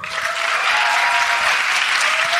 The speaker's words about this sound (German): Jetzt euer Applaus für